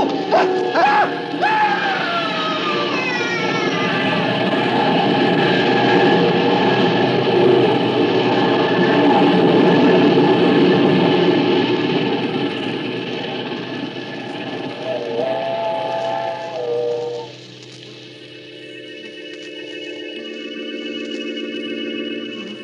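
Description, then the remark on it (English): A steam train thunders past, its heavy rumble and clatter filling the air while shrill whistle blasts sound over it, before the roar drops away and a thinner whistle tone lingers. “When the train had passed, I saw what was left of his body on the tracks.”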